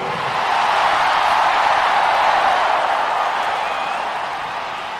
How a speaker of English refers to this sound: This is the loudest crowd so far here.